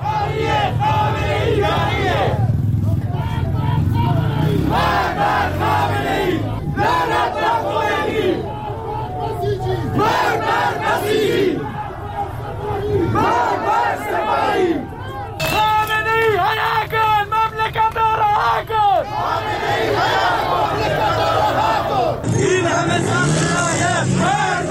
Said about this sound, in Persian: معترضان پس از سخنرانی مولوی عبدالحمید بار دیگر در خیابانها شعار سر دادند.